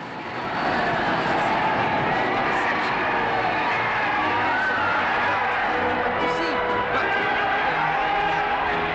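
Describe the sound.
A large, waving crowd held back by gendarmes cheers and shouts in a dense, unbroken roar of many voices as Captain Durand's aircraft, the Victory, lands on a floodlit runway, with a low engine rumble running beneath it for the whole stretch.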